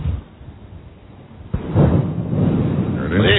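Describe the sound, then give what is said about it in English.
Thunder during a storm: a quiet low rumble, then a sudden sharp crack partway through that swells into a loud, sustained rolling rumble until the end. “Yes, we should hear some thunder now.”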